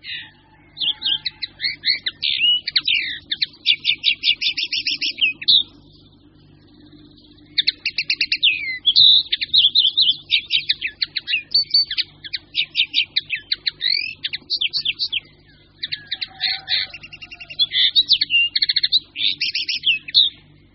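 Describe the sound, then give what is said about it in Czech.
A common linnet sings a rapid, twittering song of varied chirps and trills, delivered in long bursts with brief pauses, clear over a low steady background hum. “Naše konopky jsou převážně tažní ptáci.”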